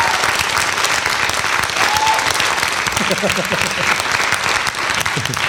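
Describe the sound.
Sustained audience applause, a dense steady wash of clapping at an even loudness for several seconds, with a brief whistle and faint voices mixed into the crowd noise.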